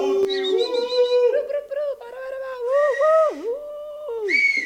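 A person whistles a fairly loud melody of sustained tones that slide up and down in pitch, with a voice-like quality, lasting several seconds with no talking.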